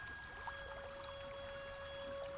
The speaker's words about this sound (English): And you can hear the river now.